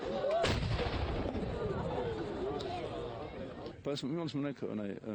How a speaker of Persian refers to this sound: همراه با صدای اذان، شلیک روزانه توپ از بلندترین محل مشرف به شهر نشانه پایان روزداری و وقت افطار می روند.